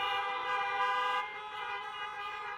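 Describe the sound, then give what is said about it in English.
Several car horns honk together in a parking lot as people in their parked cars beep in response to a preacher's question, a sustained, overlapping blare that stays loud for the whole stretch, dipping slightly partway through as some horns drop off, with an open outdoor feel. “Beep your horn if you've lied before.”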